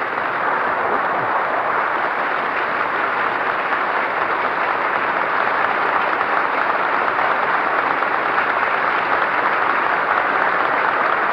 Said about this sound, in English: Incidentally, ladies and gentlemen, this applause is coming, as is usual at these sessions, from both the Republican and the Democratic side of the chamber. And this house is jammed today.